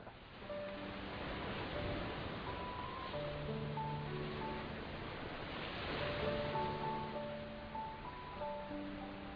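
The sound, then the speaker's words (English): Steady, rushing ocean surf from the Surf Sounds number 4 setting of a new sound machine, a continuous hissing wash that swells gently, with faint sustained tones drifting over it. No one speaks. “That same night, next to Berger and Surf Sounds number 4, I slept more soundly than I had in as long as I could remember.”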